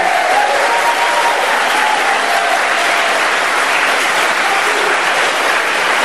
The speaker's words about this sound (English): And I appreciate you keeping your applause to the end there, just in fairness to the candidates.